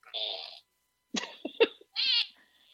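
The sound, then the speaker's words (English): A novelty keychain plays a couple of short, buzzy electronic fart noises, separated by a brief burst of clicking and rattling. “Just so happened that my fart keychain was seen under Furia.”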